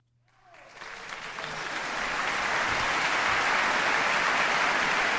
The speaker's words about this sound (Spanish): Tú has pedido aplausos, yo te he puesto aplausos